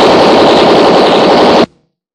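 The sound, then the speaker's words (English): A loud, sustained burst of rapid machine-gun fire from a tommy gun, dense and continuous for over a second and a half before cutting off abruptly into silence. “That machine gun won't do you any good, Race.”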